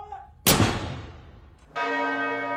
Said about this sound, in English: And bells to mark the passing of the Queen and the ascension to the throne of her son, King Charles III.